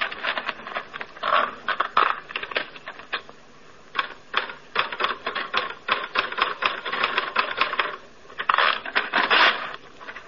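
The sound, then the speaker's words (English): Steady typewriter typing: rapid clacking keystrokes in uneven bursts with brief pauses, fairly loud and mechanical, with no voices over it. “And there's a typewriter.”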